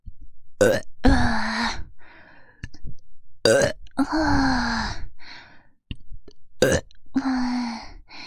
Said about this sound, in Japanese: 軽いゲップが出た。